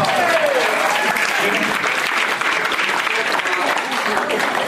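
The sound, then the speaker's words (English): Sustained applause from an audience, a dense wash of many hands clapping at a steady, loud level throughout, with a brief voice-like tone near the start. “At least clap or something, right?”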